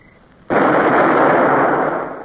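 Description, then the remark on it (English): A gun crew fires a ship's gun: a single loud, booming shot bursts in abruptly, then holds as a broad roaring rumble echoing off the hills that slowly fades without dying away. No voices are heard. “The gun crew sweated as they fired. The sound of the shots echoed off the hills.”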